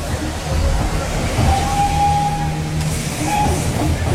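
A steam train in India rumbles steadily as it pulls into a station, a thin metallic squeal rising briefly over the heavy low churn, with a crowd murmuring in the background.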